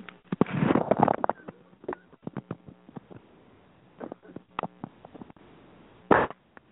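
Muffled coughing from a person with something caught in the throat while covering up a phone, with a cluster of throaty coughs near the start, scattered small clicks and throat noises, then one more short, sharp cough near the end. No one speaks.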